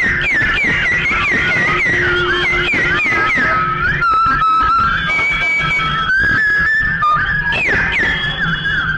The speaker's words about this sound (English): Now, let's whistle all kinds of different ways. Every way you can whistle now. Let's do it.